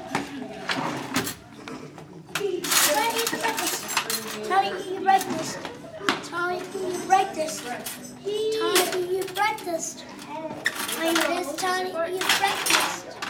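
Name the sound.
silverware clinking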